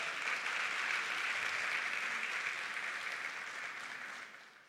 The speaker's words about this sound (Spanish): Dale un aplauso también.